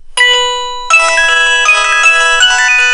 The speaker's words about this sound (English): Now that's a ringer that comes with the phone.